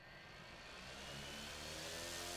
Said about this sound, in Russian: За окном раздался шум. «Что это?» – спросил Дима, просто чтобы перевести разговор. «Патрульный дрон. Дворы патрулируют. Самостоятельно фиксируют нарушения».